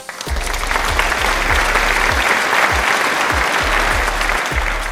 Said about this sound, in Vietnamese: Chúng ta hãy dành một tràng pháo tay cảm ơn các thính giả nhiệt thành của chương trình nào.